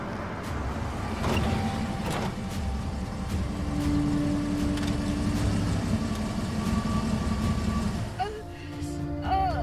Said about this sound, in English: The car pulls off of the road and comes to a stop in a secluded forest clearing.